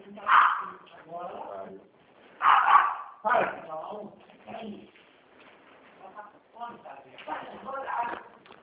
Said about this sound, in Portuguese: Peraí, deixa eu só pedir pro meu cachorro ficar quieto, que eu não consigo escutar. Espera um pouquinho só. Cachorro ficar quieto, eu tô no telefone, gente.